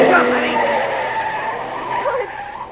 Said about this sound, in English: Fool driver swerved way across the center line, as though he were trying to run us down. Then he kept right on going.